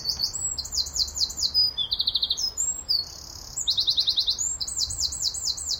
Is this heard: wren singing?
yes